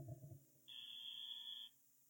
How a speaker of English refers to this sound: Close but no cigar. All right, I'll give myself the buzzer.